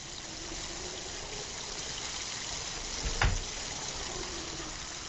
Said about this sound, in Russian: А здесь погода плохая. Идет дождь, ветер.